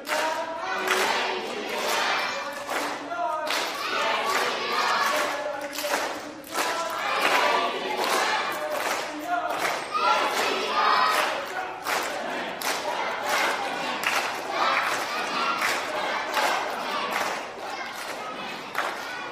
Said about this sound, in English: Go ahead, Green. You're up. Give a cheer.